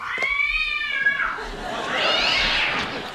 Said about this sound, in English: Someone please just go check on the cat, see what the hell's wrong with him.